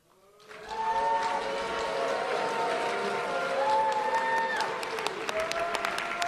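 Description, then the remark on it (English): An audience boos a speaker loudly and steadily for several seconds just after his answer, many voices holding low, droning 'boo' tones over a rough crowd roar, with a few scattered claps mixed in. “And he gets booed.”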